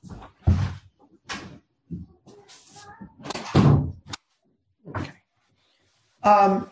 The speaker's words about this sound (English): let me try to close this door, I'll get a little more quiet.